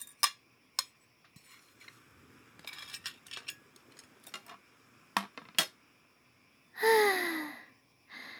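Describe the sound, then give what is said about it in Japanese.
Sharp clinks of plates and cutlery knock together in scattered bursts as dishes are gathered after a meal, followed near the end by a soft breathy sigh. “あ、食べ終わった？はい、じゃあお皿ちょうだい。”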